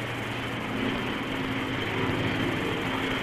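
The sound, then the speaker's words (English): An early jet aircraft engine roars steadily at full power while held on the brakes at the end of a runway before takeoff, a loud, continuous rushing drone with a deep underlying hum that holds without a break for the whole stretch, with no voices present. “he held it on the brakes and ran out the engine to full speed, released his brakes, and then he hopped off in about 600 yards.”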